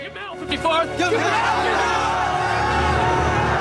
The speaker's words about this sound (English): A smile creeps across Tripp's face as he hears the cheers of support from the white soldiers.